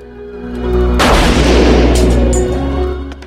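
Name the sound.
gunshot fired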